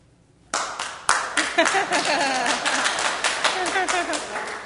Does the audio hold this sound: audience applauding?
yes